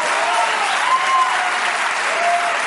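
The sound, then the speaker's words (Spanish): Sustained applause from a crowd, dense and steady clapping filling the whole stretch at a fairly loud, even level, with a few faint whistles or cheers mixed in. “Ojo, el IMARD ahí, joder, un aplauso para esta señora que es que...”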